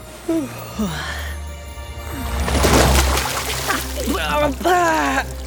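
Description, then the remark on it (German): A sudden splash of seawater is thrown into a man's face on a ship's deck, a short spray-like rush lasting about a second, surrounded by brief wordless vocal sounds before and after. “Plötzlich bekam er eine Ladung Meerwasser ins Gesicht.”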